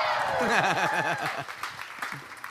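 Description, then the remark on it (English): A crowd at a baptism claps steadily while voices whoop and cheer in rising and falling yells, with the cheering fading after about a second as the dense applause continues and tapers. “Hey, we'll all yell for them. Come on.”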